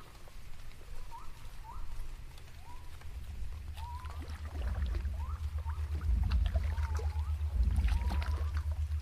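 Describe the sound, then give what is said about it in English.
A small boat is rowed through swamp water toward a village, with repeated squeaky creaks from the oars over steady sloshing and a low rumbling wash that grows louder toward the end. No voices. “The Atarian rows you to a village.”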